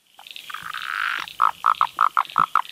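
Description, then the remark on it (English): A Blue Mountains tree frog calls, opening with a drawn-out buzzy growl before breaking into a quick series of short, evenly spaced pulsing notes, with no talking. “but that's the Blue Mountains tree frog. And that has quite a variable call, like a little kind of intro and a growl.”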